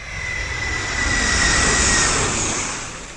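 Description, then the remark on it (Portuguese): A jet airplane's turbine engine roars loudly and steadily, a broad whooshing rumble with a thin high whine, swelling slightly in the middle and easing toward the end, with no voices. “Você já deve ter ouvido de perto o barulho de uma turbina de avião a jato.”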